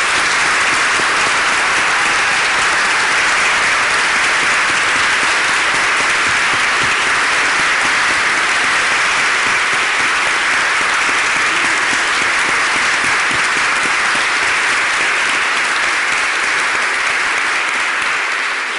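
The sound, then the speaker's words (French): Sustained, loud applause from a large audience, a dense wash of many hands clapping continuously for nearly twenty seconds with no talking over it. “Alors ensemble, vraiment applaudissons de tout notre cœur.”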